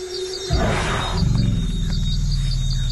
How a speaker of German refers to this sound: Ohne die Rufe der Waldelefanten wäre der afrikanische Regenwald nicht nur deutlich leiser.